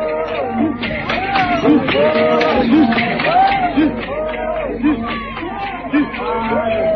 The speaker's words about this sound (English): he begins to move, walking with long, slow strides towards the lodge. The crowd fall into procession behind, rejoicing and jubilant.